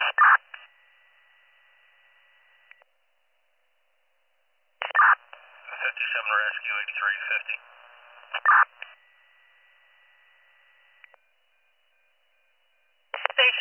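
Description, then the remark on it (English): Radio dispatch cancellation tones for the Station 57 Rescue squad, cancelling a response in Washington Borough, come through a narrow, crackly channel: short squelch bursts, then a sustained steady tone with a warbling burst over it, followed by quiet and another brief burst at the end. “Did you need me to send out cancellation tones for your squad?”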